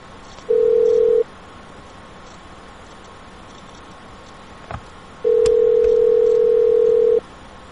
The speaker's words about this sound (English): Alright, let's, I'm gonna call that guy back. Let's see what he's got going on.